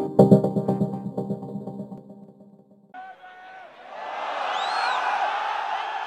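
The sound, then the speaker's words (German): A short burst of tonal, harmonic sound gives way to a sustained, steady roar of football fans cheering for their team, with high whistles rising and falling above the crowd noise. “Das Gebrüll der Fans für ihre Mannschaft ist einer der entscheidenden Faktoren beim Heimvorteil.”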